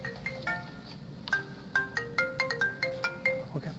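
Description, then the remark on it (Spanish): A cell phone ringtone plays during a class, a quick, bright electronic melody of short repeated tones, steady and moderately loud, with faint room noise underneath and no one speaking. “No traigan su celular en la clase, ¿ok?”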